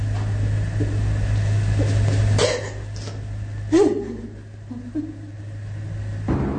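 A steady, low engine rumble fills the inside of a moving car with two people seated in it, constant throughout, broken by a couple of short coughs or throat-clearing sounds.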